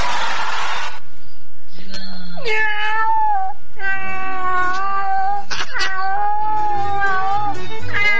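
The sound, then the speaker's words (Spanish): A skinny, hairless cat meows hoarsely and at length, several drawn-out, raspy wails in a row, loud, after a brief burst of noise at the start. “¡Ay, el gato flacuchento y pelado!”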